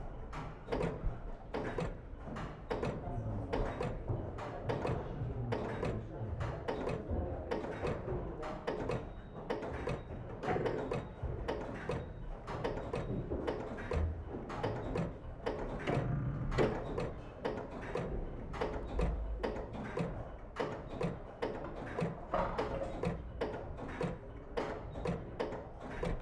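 A Synchronome electric master clock mechanism, patent number 187814, ticks steadily, picked up as a contact recording at the center of the glass in front of the face: a continuous run of rapid, sharp mechanical clicks with a faint resonant hum underneath, no voices.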